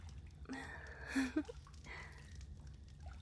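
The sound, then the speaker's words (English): Soft water pouring and trickling in a bath, with a brief splashy burst in the middle before it quiets to a faint dribble over low background hum. “How's the water? Is it too warm for you?”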